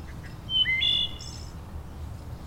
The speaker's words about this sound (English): When you hear this, it's not just a noise. It has meaning that the bird is trying to communicate.